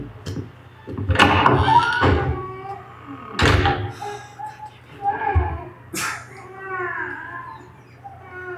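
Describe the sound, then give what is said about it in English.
A door opens with a few heavy wooden thunks and creaks spread over several seconds, fairly loud, followed by softer tonal sounds against a low steady hum. “The door opened though.”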